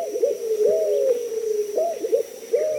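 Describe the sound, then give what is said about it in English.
A white-crowned pigeon, a Caribbean bird, coos in the Florida Keys in low, mellow phrases, several rolling coos repeated in a steady rhythm, with no voices and only a faint steady hiss behind. “Listening on Key West to mangrove cuckoos and gray kingbirds, you might imagine yourself in Cuba or the Bahamas, and you might see another Caribbean bird, the white-crowned pigeon.”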